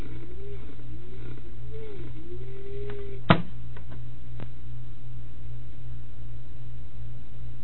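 A computer cooling fan in Langhorne, Pennsylvania whirs steadily with a low droning hum and airy hiss. A wavering tone rises and falls for the first few seconds, then a single sharp click sounds, and the whir carries on.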